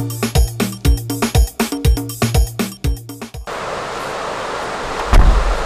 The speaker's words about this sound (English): Whew. The rain just bust.